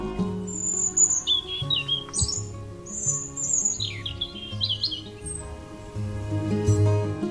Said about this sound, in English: Robins are a signal of winter, and while they may look very cute, they're fiercely territorial, and their song is actually warning other robins away.